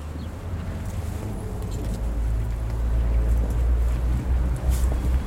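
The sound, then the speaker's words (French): A steady low rumble of faraway traffic fills the background, a continuous murmur of cars with faint airy noise on top and no one speaking. “La rumeur des voitures est lointaine.”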